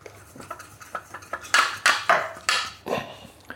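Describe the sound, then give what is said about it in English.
A mug being pressed down to cut out pastry: a run of irregular knocks and clinks of ceramic on a board, soft at first and then louder, with no one talking. “I'll cut the pastry out.”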